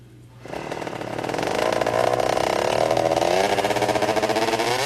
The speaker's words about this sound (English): It's got like a lawnmower engine in it. It sounds like a motorcycle.